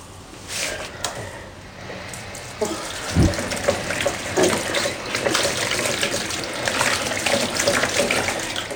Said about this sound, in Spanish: Enjuaga el paño con agua caliente.